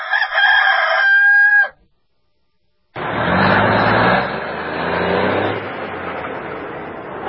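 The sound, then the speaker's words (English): A single loud rooster crow rings out, then after a short silence a heavy vehicle engine roars up and rumbles on steadily. “But in the meantime, Pilot and Flying J brings you this segment, and we're going to go rooster cruising.”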